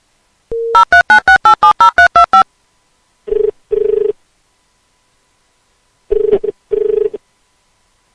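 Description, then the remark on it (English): A quick run of about nine dial tones beeps in rapid succession as someone calls a friend, followed by two pairs of ringback tones separated by silence, clear with no voices. “To demonstrate the awesomeness of a Shit Talker phone call, let's call my friend”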